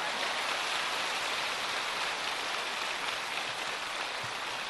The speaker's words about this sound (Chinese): 掌声多了吧？